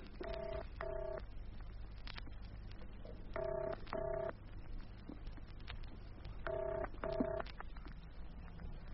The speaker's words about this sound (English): Come on, answer your phone.